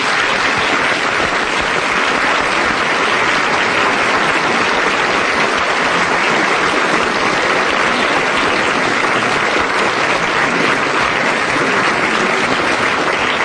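Sustained, loud applause from a studio audience, a dense steady wash of clapping that continues evenly for over ten seconds without any voices on top.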